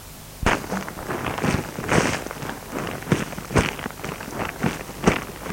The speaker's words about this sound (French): Écoute, j'aime entendre le bruit de nos pas sur le gravier.